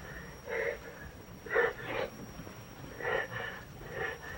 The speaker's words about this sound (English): George hears the whimpering from the closet